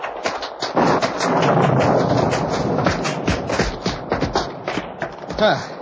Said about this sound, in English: The rain's getting at us even through the trees.